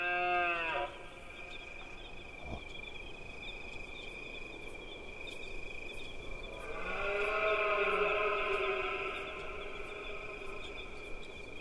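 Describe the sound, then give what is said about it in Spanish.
Red deer stags bellow during the rut: a short, deep roar at the start, then a longer, louder, drawn-out bellow later on, over a steady high insect trill. “la época de la berrea, de los ciervos, en esta época del celo también, escucharlos es muy, no sé, es un poco atávico, es un poco, como muy potente, vamos.”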